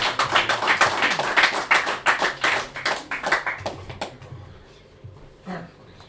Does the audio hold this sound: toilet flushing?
no